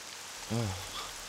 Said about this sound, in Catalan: Ara es posa a ploure.